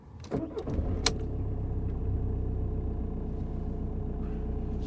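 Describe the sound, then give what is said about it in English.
A car engine cranks briefly and catches, then settles into a steady low idle rumble with no talking, the car turned on to get air to a baby in the back. “Here, let's turn the car on and get some air back here.”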